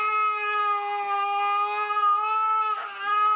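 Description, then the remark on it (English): A child screams in one long, unbroken, piercing wail, steady in pitch and loud throughout, with a brief wavering break near the end before it resumes, in a scene from the film The Trip to Spain as Rob Brydon looks at the screaming child. “Okay, Rob Brydon there, looking at a screaming child and not hesitating to go on another trip with Steve Coogan.”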